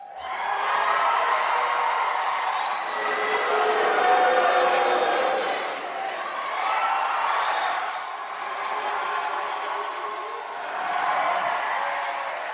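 A large crowd of Bernie and Hillary supporters at a debate at the Brooklyn Navy Yard cheers and shouts continuously, loud and dense, with swelling waves of voices rising and falling every few seconds and scattered clapping mixed in.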